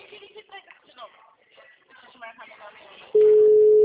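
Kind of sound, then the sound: signal or alarm, telephone line tone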